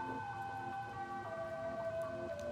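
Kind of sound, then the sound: vehicle, ambulance siren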